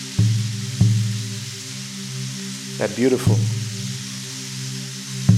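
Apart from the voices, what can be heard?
rain falling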